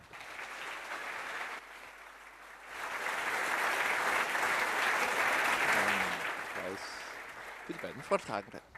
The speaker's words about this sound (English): Please give a warm welcome and applause to